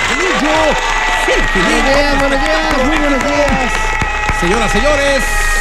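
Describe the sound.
Steady, loud applause fills the whole clip, with voices whooping and calling out over the clapping in rising and falling tones.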